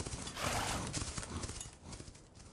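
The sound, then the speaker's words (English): A horse whinnies and wheels around with its rider, then its hooves break into a fast, pounding gallop as it charges off, carrying on steadily and loud, with no one speaking. “And then Allenby wheeled on his horse and charged off.”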